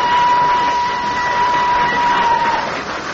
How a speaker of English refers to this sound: Not until the train started to move from the platform.